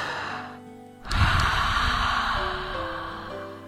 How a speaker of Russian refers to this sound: Набрали в легкий воздух. Первое дыхание ха. Набрали.